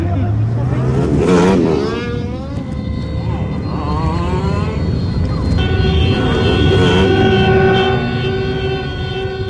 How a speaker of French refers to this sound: Voilà, après cette brève évocation sonore de la rue et de ses voitures